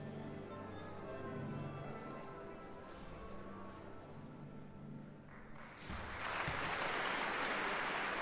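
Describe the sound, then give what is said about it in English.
Sustained orchestral tones hold for several seconds, then a large audience in the Usher Hall bursts into loud, dense concert applause that continues steadily to the end, greeting Maestro Shai as he steps onto the stage to conduct the Filarmonica della Scala in Shostakovich's 12th Symphony. “Well, the applause greets once again Maestro Shai as he steps onto the stage of the Usher Hall to conduct the Filarmonica della Scala in Shostakovich's 12th Symphony, the year 1917.”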